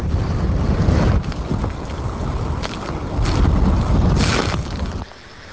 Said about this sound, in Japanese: また台風の通過に伴って朝方からは吹き返しの風が強まり、最大瞬間風速は午前7時過ぎに富山市で26メートル、高岡伏木では午前6時半ごろ 28.4 メートルを観測しました。